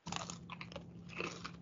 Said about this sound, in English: Munching and crunching. Too much lip smacking now.